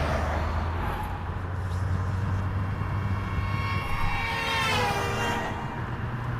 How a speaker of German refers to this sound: So, ein Auto kommt, wir müssen ausweichen. Hier müssen wir wirklich immer ausweichen.